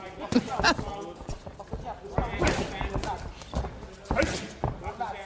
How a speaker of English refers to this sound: Boxing matches have no audiences because of COVID-19. And since there's no crowd, you can really hear how loud the punches are landing on the boxers' bodies. Mm-hmm. Like, those aren't punching bags.